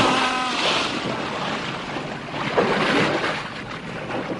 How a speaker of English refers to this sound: I turned. The splash of his great body was rocking the gondolas. I stared for a moment, too surprised to do anything.